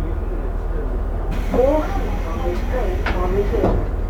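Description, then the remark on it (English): Steady low rumble of a moving train heard from inside a carriage, with an onboard announcement saying the train is reserved-seat only and passengers without a seat reservation cannot ride, over the onboard noise, and a few faint clicks and squeaks. “この電車は電車指定席です。”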